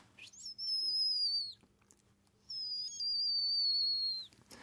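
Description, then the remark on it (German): Two long, thin, very high-pitched, almost toneless whistles, each about a second long and slightly falling in pitch, separated by a short pause; a songbird's alarm call given when a falcon or sparrowhawk approaches in flight, against a faint background hum. “dann äußern viele Vogelarten einen sehr ähnlichen Ton, der auch universell verstanden wird, ein sehr hohes, fast tonloses Ziehen.”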